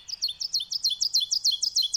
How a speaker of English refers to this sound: This bird over here is a wonderful bird. They're called oven birds because they build oven-shaped nests, very tiny nests with little entrances on the ground in the leaf litter. I wanted to play the oven bird for all of you.